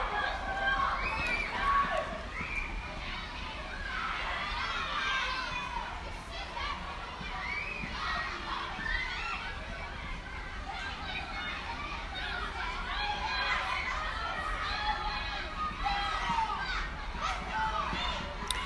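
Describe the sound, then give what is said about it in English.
A crowd of children screaming and shrieking at play, a steady, continuous jumble of high, overlapping voices with occasional louder yelps, holding roughly the same loudness from start to finish. “Anyway, folks, I think that's enough of my rambling and their screaming.”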